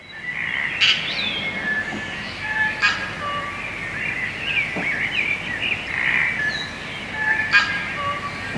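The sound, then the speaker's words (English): A dense chorus of New Zealand native birds calling together, with overlapping whistles, trills and sharp chirps layered continuously throughout, moderately loud with a few brighter calls standing out near the start and end. “In fact, you could be hearing something like this: the calls of our New Zealand birds.”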